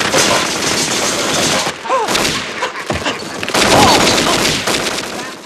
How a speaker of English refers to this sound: Kevin lights the firecrackers in the pot. Moves away and covers his ears.